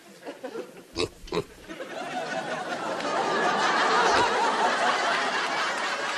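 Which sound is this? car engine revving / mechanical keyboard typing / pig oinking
pig oinking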